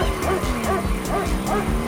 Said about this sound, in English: Can hear a dog.